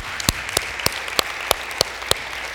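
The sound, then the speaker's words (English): A church audience in Aurora claps over a steady wash of applause, with several sharp, louder claps standing out at a roughly even beat. No one speaks. “You need to clap right there.”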